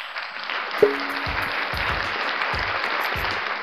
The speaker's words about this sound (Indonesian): Sebagai bentuk rasa hormat kita, mari kita berikan tepuk tangan untuk guru-guru SD di seluruh Indonesia.